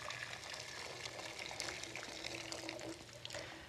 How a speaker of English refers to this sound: The trick with pasta is you want lots and lots of boiling water before you start. So make sure you turn on the gas. We've got boiling water straight in here.